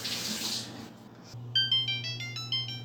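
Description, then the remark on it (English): A kitchen timer goes off for food baking in an oven set to 500 degrees, with a quick, repeating run of high electronic beeps, following a brief hiss at the start, while a steady low hum runs underneath. “Okay, well, there's the timer.”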